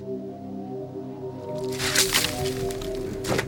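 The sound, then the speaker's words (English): Wet, slushy scraping and sloshing as a slush scoop clears ice chunks from a hole in lake ice, with a couple of louder splashy swipes against a steady low hum. “Now I'm gonna take a slush scoop and just clean that ice out.”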